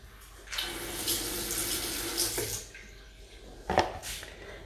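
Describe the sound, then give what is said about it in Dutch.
A small amount of water, about a tablespoon per two bananas, pours into a blender jar holding frozen bananas for banana ice cream. It makes a steady splashing stream for about two seconds, then a short second splash follows. The sound is fairly quiet, with no one talking. “Daar doe je dan een klein beetje water bij.”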